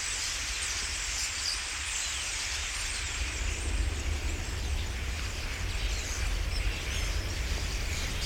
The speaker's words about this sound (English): I'd been sitting there for several hours, listening mainly to the frogs and the occasional bird